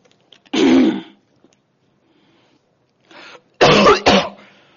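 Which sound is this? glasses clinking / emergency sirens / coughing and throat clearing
coughing and throat clearing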